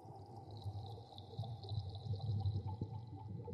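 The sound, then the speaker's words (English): Water churns and sloshes steadily with a low, bubbling rumble as a diver wearing a 200-pound Mark V diving suit slowly descends into it for the first time. No one speaks. “But she has it on, and she's now descending into the water for the first time.”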